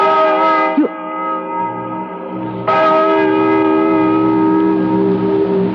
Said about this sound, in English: Listen to that bell.